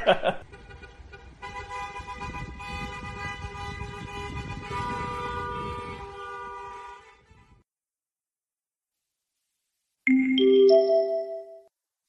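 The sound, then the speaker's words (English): Several car horns blare at once for a wedding in a long, sustained chorus over rumbling traffic. After a short silence, a brief burst of melodic, tune-like honking follows. “So they all go crazy and they start honking like crazy because it's wedding time.”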